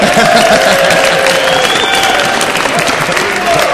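A large audience applauds a man's T-shirt, a dense, continuous wash of clapping with some faint cheering mixed in, loud and sustained for several seconds without a break.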